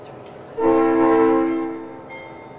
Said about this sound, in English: As the train starts to edge away, he raises his hand and waves.